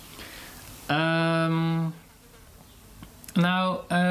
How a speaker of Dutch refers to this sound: ik hoor hem ook. Een hele luide vlieg. Wow.